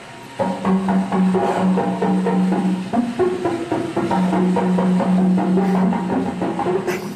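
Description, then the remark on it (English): Several whales call at once in an overlapping chorus of low, steady tonal calls, punctuated by quick metallic, conga-like knocks repeating throughout. The sounds stay fairly loud with no talking. “And you could hear, there was a portion there where you could hear several whales calling at the same time.”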